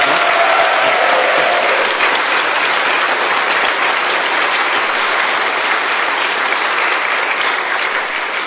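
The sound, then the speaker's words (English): A crowd claps for everyone who has spoken, steadily for several seconds, a loud, dense wash of many hands applauding at once, holding an even level from start to finish with no voices breaking through. “Could we have another round of applause for everyone who has spoken?”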